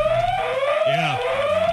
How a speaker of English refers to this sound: the Joe Murray alarm is going off. Joe Murray has actually gotten up and he's left the studio, as a matter of fact.